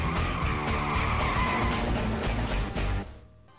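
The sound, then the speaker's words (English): A loud screech of tires skidding with squealing brakes, a sustained high-pitched scrape over rumbling engine noise that cuts off abruptly after about three seconds. No voices. “It's our break check, pump the brakes moment of the week.”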